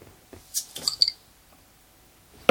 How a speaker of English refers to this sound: I see you open a bottle of beer and don't want to interrupt you by hissing it.